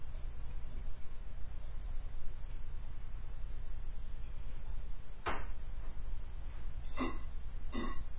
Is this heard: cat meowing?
no